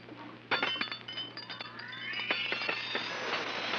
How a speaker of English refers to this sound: There's Dr. Carter's dinner gong. Come along.